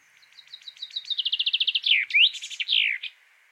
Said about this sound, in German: Oder der Buchfink, der immer singt, ich schreibe einen Brief an die Regierung.